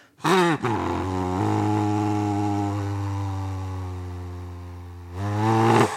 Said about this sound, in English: She blows into a device that forces air through the skull's nasal passages. So this is like two skinny balloons attached to two brass tubes. But also, you can get very deep sounds with this too.